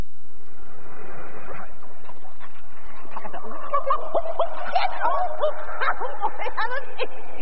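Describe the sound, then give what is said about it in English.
A man imitates a barking dog, letting out a rapid run of short, high yips and barks that start faintly and grow louder and busier through the second half. “He was pretending to be a dog.”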